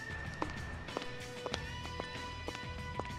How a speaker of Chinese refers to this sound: 有脚步声，看来他就在附近。 找到你了，让你穿高跟靴暴露位置了吧。发现你了，你的脚步声也是太明显了吧。